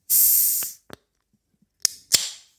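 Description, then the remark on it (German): A drink can being opened at a microphone during a morning show: a bright, fizzy hiss lasting under a second, followed by a few sharp metallic cracks and clicks, the last one with a short fizzing tail. No one speaks. “Und ja, ich mache ja mal die Dose auf.”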